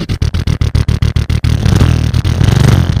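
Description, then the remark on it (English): A voice imitates a motorcycle: a loud run of rapid sputtering pulses, then a continuous buzzing rev that rises and wavers in pitch, with no other talking. “I'll do my motorcycle.”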